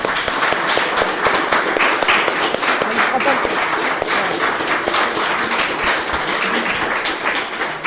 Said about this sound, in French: Et à vous tous de l'applaudir bien fort, car il mérite une très très grande reconnaissance.